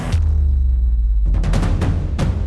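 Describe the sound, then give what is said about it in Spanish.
A muffled, contained explosion during bomb disposal training, set off when a suspicious object is pulled from outside with handling equipment: a deep, loud boom followed by heavy low rumbling and a few more dull thuds over a couple of seconds, with no voices. “Y al traccionar ha habido una explosión, pero la explosión se ha quedado allí dentro.”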